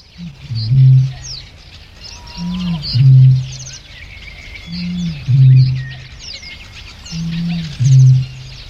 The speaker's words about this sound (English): Here's the deep, booming call of a bittern recorded in Norfolk, England. This is in 1966.